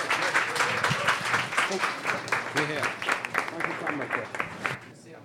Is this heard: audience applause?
yes